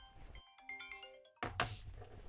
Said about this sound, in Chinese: 有电话，你们别动我，有电话来了。